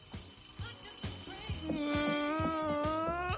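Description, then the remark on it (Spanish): An alarm clock goes off, a steady electronic ringing tone rising in partway through over a quick, regular thumping pulse, loud throughout. “La disciplina, la vuelta a ver a los amigos, la vuelta al aprendizaje, la rutina, pero también volver al despertador.”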